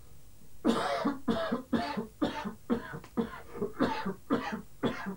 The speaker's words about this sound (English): I can hear someone coughing.